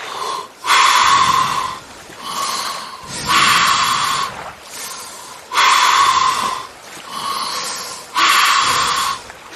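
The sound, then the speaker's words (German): Slow, deep breaths drawn in and pushed out through the mouth via a snorkel held between the teeth, with a mask on, loud, in a steady rhythm of about five full cycles with short pauses between. No one speaks. “Und jetzt atmen wir mal tief und ruhig durch den Mund ein und aus.”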